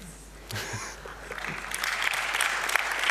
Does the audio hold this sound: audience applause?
yes